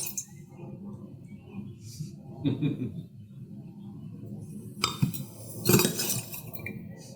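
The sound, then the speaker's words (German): Three wine glasses clink and knock a few times at irregular moments as they are handled during a wine tasting, with soft voices and a low background murmur underneath. “Drei Gläser werden nochmal schön inhaliert.”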